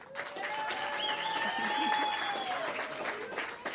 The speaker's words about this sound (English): Please join me in applauding